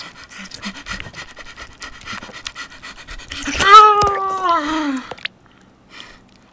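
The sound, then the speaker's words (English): A person imitates a dog's panting with quick, rhythmic breathy huffs, then breaks into a loud, drawn-out voiced whine that slides downward before stopping abruptly. “Human. Not dog. Not dog.”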